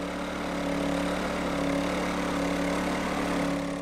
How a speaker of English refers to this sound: Eric turns the generator on to provide power to Dave for tunnel chiseling later in the day.